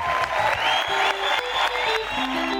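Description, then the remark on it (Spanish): A seated crowd, some sitting on the ground, claps steadily and continuously before a theatre play to cheer the actresses out onto the stage, a dense wash of applause, with a few low sustained tones sounding faintly underneath. “Se sentaron en la tierra, enrollaron sus piernas y aplaudían animando a que las actrices salieran ante el público.”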